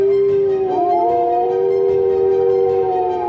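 Wolves howling together, long sustained howls that rise and glide over one another without a break, fairly loud, with no one talking.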